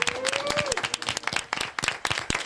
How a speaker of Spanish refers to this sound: Hoy tenemos con nosotros, y quiero que aplaudan un montón, al Instituto de Educación Secundaria Joaquín Rodrigo, que vienen desde Vicálvaro.